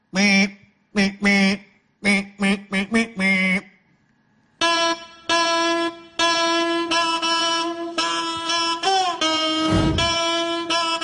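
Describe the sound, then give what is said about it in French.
A nasal, reedy bignou-like (bagpipe-like) tone, like a sick duck honking, starts in short choppy bursts, then holds long loud droning notes over a steady low hum, alone. “Un son de bignou. Bignou. Bignou. Un son de canard malade.”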